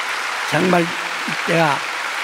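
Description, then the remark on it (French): A steady wash of audience applause, with a couple of short voiced calls or shouts rising briefly above the clapping. “Applaudissons pour nous-mêmes.”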